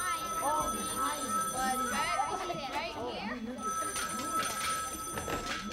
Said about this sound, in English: They were still at it when the phone rang.